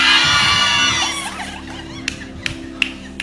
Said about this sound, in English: Someone say, what's wrong with them? What's wrong with you? If they give you 1 million now, the way you'll be screaming, hey! But they are screaming at the word of God.